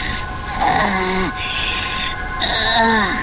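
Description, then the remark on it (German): Two loud, raspy gasping breaths, each drawn out with a groaning voiced edge, like someone panting heavily from exhaustion in hot desert sun while thirsty. A short pause separates them. “Keuch, schwitz. Wasser.”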